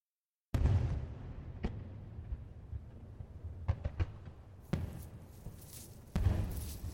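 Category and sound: sound effect, fireworks exploding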